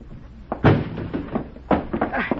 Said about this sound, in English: All right, Juan. Break down the door.